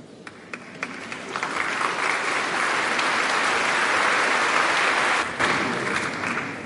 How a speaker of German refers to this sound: Applaus, Applaus.